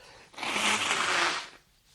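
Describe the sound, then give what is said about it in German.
A single forceful nose blow, a broad rushing burst lasting just over a second, with a faint low honk underneath, then quiet. “Ja, und ich lass den O-Ton einfach so laufen mit dem Naseputzen.”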